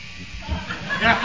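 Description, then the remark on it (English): A voice imitates a drill with a brief buzzing, whirring vocal noise that rises in pitch and grows louder toward the end, lasting just over a second. “It's like a drill.”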